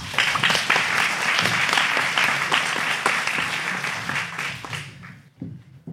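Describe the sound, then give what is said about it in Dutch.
A crowd applauds with dense, steady clapping for about five seconds, then the applause fades out quickly, leaving a few faint sounds at the end. “Applaus!”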